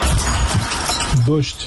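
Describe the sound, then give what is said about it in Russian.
A dense, continuous clatter of metal debris falling and clinking after a missile strike in Belgorod, Russia, loud, with a voice briefly audible beneath the noise. “Дождь из металла.”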